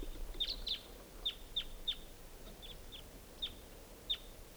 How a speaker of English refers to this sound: I hear pair birds. A lot of crossbills around here.